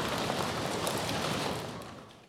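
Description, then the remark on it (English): A group of people imitates a thunderstorm, making a dense, steady rain-like hiss and patter that holds strongly for about a second and a half, then tapers away. “Let's make it stormy in here. Everyone, let's go. Let's get some thunder.”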